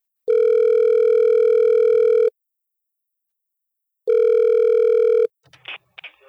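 signal or alarm, telephone call ringing out

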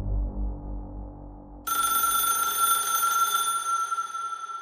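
signal or alarm, telephone ringing

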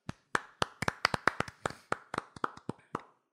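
human body sound, hands clapping

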